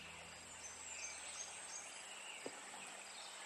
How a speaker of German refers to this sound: Du siehst das Grün der Bäume und du hörst das Singen der Vögel.